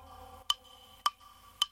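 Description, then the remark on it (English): A wall clock ticks three times at a steady, unhurried pace, each tick crisp and slightly ringing against a faint low hum, with nothing else happening. “Then there was no sound at all, but the clock upon the wall.”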